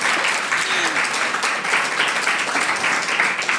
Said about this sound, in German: Aber ich würde mich freuen, wenn das Publikum einmal ganz laut klatschen würde, damit man hört, dass wir live sind.